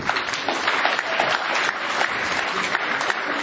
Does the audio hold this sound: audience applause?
yes